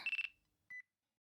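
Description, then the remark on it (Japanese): A phone rings with a call from the nursing director: a bright electronic trill of three rapid pulses, a short pause and a brief second chirp, clear with no voices. “もうやば、看護部長だ。電話出るね。”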